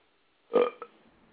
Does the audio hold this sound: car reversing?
no